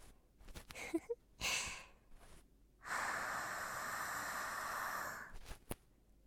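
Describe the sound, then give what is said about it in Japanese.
Several short, soft puffs of breath, then a long, steady exhale hissing very close to the ear for a couple of seconds, with no talking, as someone lying beside the listener during ear cleaning breathes out. “ほら、ちょっと息を吐けば吐息がこんなにも直接感じられる。”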